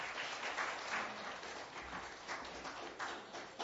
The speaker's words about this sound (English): Give it up to God. Can we get another round of applause for the Sabbath School children?